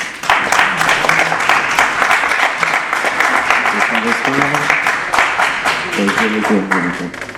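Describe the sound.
An audience in an amphitheatre applauds to welcome an evening speaker on climate, with steady, dense, crackling claps for several seconds, fairly loud and sustained, with a few voices murmuring and calling out underneath.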